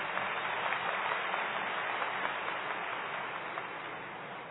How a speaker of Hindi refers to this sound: अपने भाग्य की सराहना के लिए ताली बजाए।